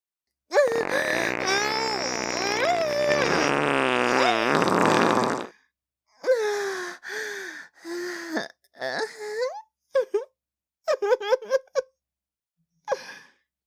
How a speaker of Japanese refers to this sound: 出ちゃった。おなら。どう？すっごい臭かったでしょ？お姉ちゃんの特大の一発。